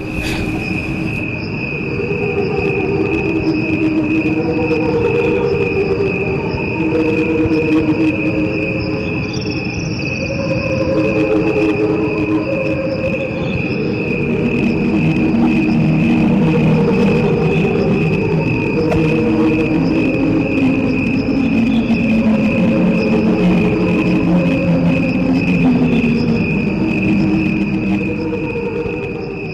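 Outdoor forest ambience dominated by a steady, high-pitched chorus of crickets and insects, with a soft, shifting wash of lower rustling and murmuring sounds underneath; no one speaks.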